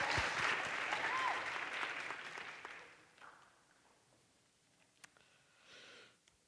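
Loud, dense clapping from an audience giving a man another round of applause after a prayer, lasting about three seconds, then tapering off into scattered claps and quiet rustling, with a brief sharp tap and a soft breathy sound near the end.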